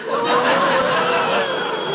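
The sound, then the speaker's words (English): An electronic quiz buzzer sounds as a contestant buzzes in during a higher-or-lower numbers round on 2012's news, a steady tonal chime that holds for a couple of seconds and brightens into higher ringing tones near the end, with faint chatter underneath. “and you buzz in to tell me if you think the number involved is higher or lower than in the previous statement.”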